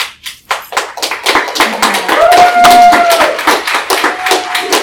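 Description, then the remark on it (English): An audience at a meeting applauds loudly and steadily for about five seconds, many hands clapping in a dense patter, with a brief whistle-like tone rising over the clapping midway. “Let's hold our applause.”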